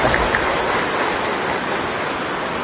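A crowd claps steadily for a few seconds, a dense, even patter of many hands with no voices over it and no break in the loudness.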